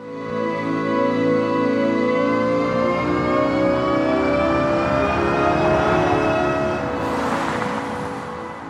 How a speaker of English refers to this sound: And now some of her team's work is becoming actual design, like this sound that plays as a Nissan electric car accelerates.